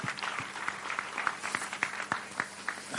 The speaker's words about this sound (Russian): Аплодисменты. Самые сильные.